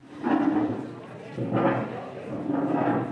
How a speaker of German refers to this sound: Noch kurz etwas Stühle rücken, nach links und nach rechts, und dann geht's los.